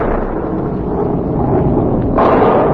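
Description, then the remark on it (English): Deep, rolling thunder in the Catskill country rumbles on without a break, heavy in the low end, then swells into a louder, brighter crack-like surge near the end. No voices. “There. Hear it? You think that's thunder?”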